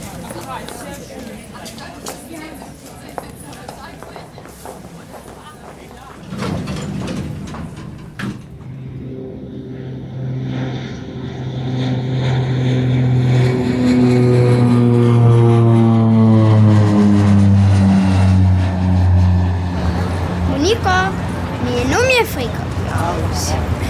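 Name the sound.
airplane engine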